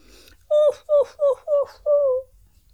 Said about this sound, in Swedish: En hund var det som tjöt. En lurvig svart hund som satt i en snödriva och såg så ledsen ut.